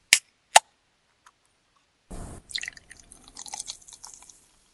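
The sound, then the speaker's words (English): Two sharp clicks at a can's tab, then a hiss as it cracks open, followed by a fizzy, crackling pour of a carbonated drink for a couple of seconds, with no talking. “All right, let's open one and get it poured, and then we'll get started on this case.”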